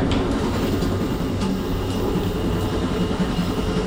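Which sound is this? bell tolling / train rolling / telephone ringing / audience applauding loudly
train rolling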